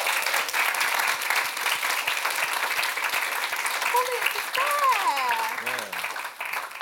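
A crowd applauds steadily, dense clapping filling the room at close range, with a brief cheer or whoop rising near the end as the clapping begins to thin.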